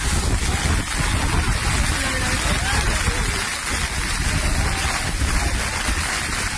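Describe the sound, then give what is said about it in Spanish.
Strong, steady wind roars while hailstones pelt down in a dense, continuous clatter, loud and unbroken, during the Behobia-San Sebastián race, where the wind forced runners to run backwards at times. “Bolas de granizo, el viento que hacía que los corredores tuvieran que correr de espaldas en algunos momentos.”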